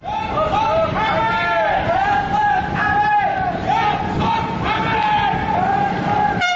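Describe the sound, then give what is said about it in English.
A crowd of young anti-regime protesters in Bahrain shouts "Down with Hamad!" together, demanding the fall of the Bahraini king, in loud, rhythmic unison, the chant rising and falling in repeated phrases over a steady roar of voices. “Down with Hamad! That's what these young protesters are shouting, demanding the fall of the Bahraini king whose clan has ruled for 2 centuries.”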